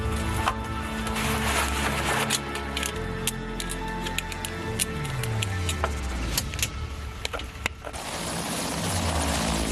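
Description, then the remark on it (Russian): Loud, steady rotor and engine drone heard from inside the cabin of a military helicopter carrying high-power stations for suppressing enemy air defences, with dense low harmonic thrumming, rattling clicks and a shifting turbine whine throughout, no talk. “Внутри вертолета у нас станции высокой мощности, которые позволяют на большие расстояния в глубину территории противника осуществлять подавление средств ПВО всех модификаций”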